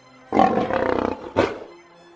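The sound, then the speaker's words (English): A lion gives a loud roar lasting nearly a second, then a shorter, gruff follow-up growl before it fades into quiet. No voices are heard. “I'm on a lion. Look at me. I'm on a lion.”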